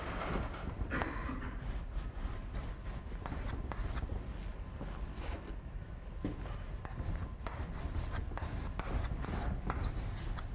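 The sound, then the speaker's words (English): A marker or chalk scratches steadily across a board in a series of strokes as someone draws a train, with short squeaky bursts and brief pauses between lines, fairly loud, no one speaking. “So let me draw the train first.”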